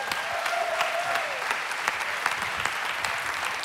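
A church audience applauds steadily to welcome a guest speaker, a dense wash of many hands clapping at an even level throughout, with a faint tonal murmur early on and no clear speech.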